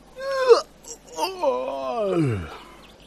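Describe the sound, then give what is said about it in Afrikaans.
A voice imitates a big crocodile's huge, drawn-out yawn, a groaning wail that swells and then slides down in pitch over a few seconds, with no other sounds. “Sy kyk om haar rond en sien 'n groot krokodil na haar toe aangeloop kom. Hy gaan staan en gaap 'n slag.”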